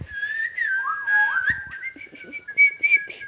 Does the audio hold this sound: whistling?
yes